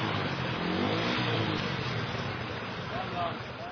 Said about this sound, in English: Some press on with engine revving, and are able to continue their journey.